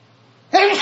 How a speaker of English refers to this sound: I also need to be clear that I'm going to sneeze.